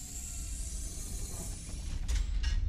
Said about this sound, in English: All right, let's go outside. All right. I'll open the door.